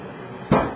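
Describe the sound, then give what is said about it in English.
A single solid thud of a door shutting breaks a quiet hiss, hitting suddenly with a deep low knock and a short fading tail. No one speaks. “That's the door.”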